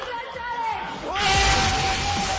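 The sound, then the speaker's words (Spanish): After a quieter, tonal voice at the start, students in a law class erupt into loud shouting and cheering midway through as they do a class challenge, throwing confetti and jumping on desks, a sustained excited roar filling the classroom. “Al grito de My Class Challenge se ha desatado la euforia.”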